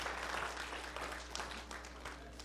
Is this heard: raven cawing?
no